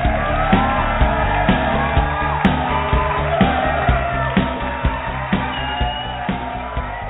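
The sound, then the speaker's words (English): A studio audience at the live Hollywood radio show Rated G Radio cheers and whoops loudly and continuously, with a steady rhythmic pulse of beats or clapping underneath, filling the whole stretch without a pause. “Well, big thanks to everybody in the audience tonight for that rounding applause.”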